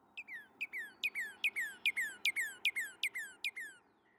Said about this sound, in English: For instance, the Northern Cardinal, a loud string of clear downslurred or two-parted whistles, often speeding up and ending in a slow trill.